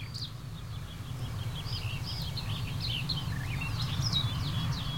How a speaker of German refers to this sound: Da wieder der Rot-Milan.